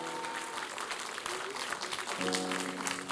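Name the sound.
audience clapping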